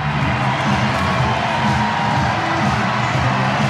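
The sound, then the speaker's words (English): A large tennis crowd cheers and applauds loudly and steadily for Royer as he goes through, a dense roar of voices and clapping with scattered whoops that holds at full strength throughout. “And we'll get an update on what else is happening in just a moment as Royer gets a huge cheer.”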